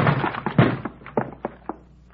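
A heavy, muffled crash as a locked door is shouldered open, followed by a handful of lighter, irregular thumps spaced out over the next second or so. No voices.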